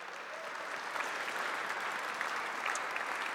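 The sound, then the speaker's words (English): An audience claps steadily for a few seconds, a dense, even wash of many hands with sharp individual claps popping out, at a fairly soft overall level with no voices standing out, giving a round of applause to thank the person who made the costumes for a children's show. “So we need to give a round of applause”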